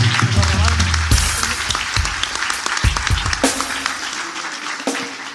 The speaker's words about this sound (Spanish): Un fuerte aplauso igual para mis amigos, por favor.